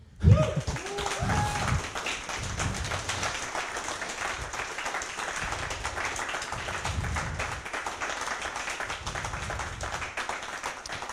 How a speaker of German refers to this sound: An dieser Stelle kommt frenetischer Applaus.